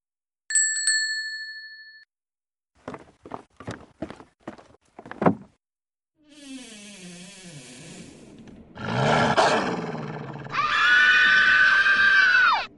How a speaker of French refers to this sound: Un horrible loup. Je vais tous vous dévorer, gronde le loup affamé.